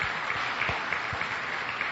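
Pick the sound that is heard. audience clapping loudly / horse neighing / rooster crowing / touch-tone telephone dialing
audience clapping loudly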